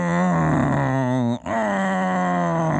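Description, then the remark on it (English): A voice imitates the whining drone of remote-control model airplane engines flown all afternoon in Florida, a steady buzzing hum that cuts out briefly partway through, then resumes at a similar pitch. “Down there, everybody was big with those model airplanes, you know, those kind with the remote control.”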